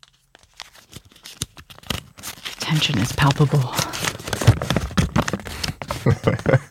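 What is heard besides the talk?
paper being unfolded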